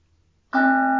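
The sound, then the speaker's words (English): After a moment of near silence, a mindfulness bell is struck once and rings out loud and steady, its rich, layered tone sustaining without fading to the end. “Oh, there's that sweet bell again.”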